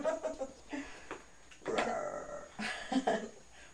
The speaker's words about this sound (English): A lion. That's a lion.